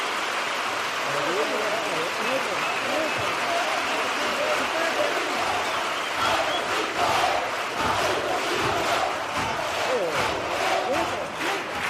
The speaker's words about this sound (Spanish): La reacción del público en pie aplaudiendo esta segunda letra contra el acoso al hilo, bueno, pues de esa desgraciada muerte de Sandra Peña.